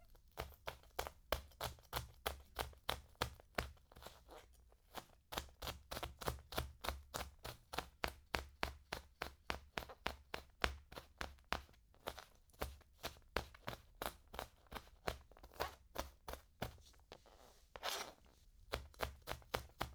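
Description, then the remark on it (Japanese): A knife chops rapidly and steadily on a cutting board, mincing already crushed garlic even more finely in a long run of quick, even, crisp taps with no talking. “ある程度潰したら、さらに細かくみじん切り。トトトトトトト。トトトトトト。”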